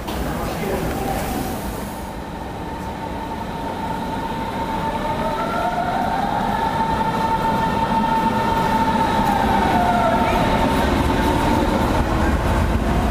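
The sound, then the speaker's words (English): An S-Bahn commuter train rumbles steadily at the Zoological Gardens station, with loud low-end noise, rising and falling whines and squeals as it moves, and faint voices in the background. “We're getting on the train at Zoological Gardens, and he got one.”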